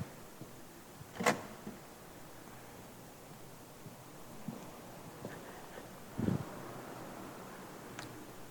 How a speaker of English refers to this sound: I'm just going to grab a chair here.